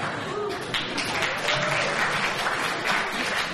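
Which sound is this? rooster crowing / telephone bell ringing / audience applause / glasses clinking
audience applause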